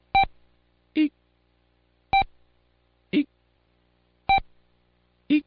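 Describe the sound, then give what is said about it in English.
Three short, single Morse code beeps for the letter E, evenly spaced about two seconds apart, each answered by a brief high-pitched vocal squeal of "Eek". “And the fair maiden said, "E is made by one short beep alone.”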